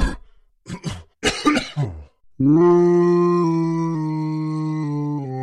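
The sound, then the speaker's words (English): A huge creature, Saffrite, hacks and coughs in several rough bursts, then lets out a long, loud, deep bellowing groan that holds steady as it strains to cough up Voltronic Zoo. “Saffrite had coughed up Voltronic Zoo.”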